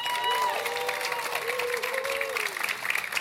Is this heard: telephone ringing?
no